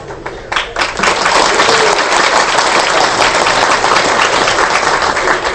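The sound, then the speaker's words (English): A large audience applauds steadily, the dense clapping rising quickly after a brief start and holding at a loud, even level throughout with no voices over it. “Thank you for the appreciation. I didn't come to get a clap”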